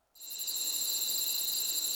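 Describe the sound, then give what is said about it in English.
Dense, continuous cricket chirping with a bright, high-pitched shimmer, steady throughout, starting abruptly after a brief silence and pulsing in a fast, even rhythm. “It's got lots of high end, lots of chirping.”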